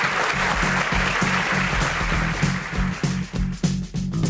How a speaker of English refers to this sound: Let's give them a round of applause for getting through the lightning round.